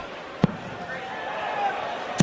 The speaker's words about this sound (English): How's the sound of the darts that loud? Finishing. I put the microphone up there. It's crazy.